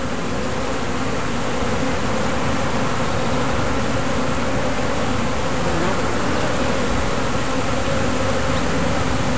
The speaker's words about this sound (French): Il y a un drone hurlant qui se promène.